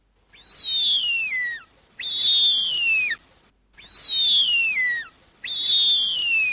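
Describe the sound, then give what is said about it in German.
A young bearded vulture gives four loud, drawn-out whistling calls, each sliding downward in pitch, in a steady rhythm with short pauses between them, clear with no other sounds. “Es ist ein Bartgeier, ein Junger. Und er scheint dem Rufen nach recht kräftig zu sein.”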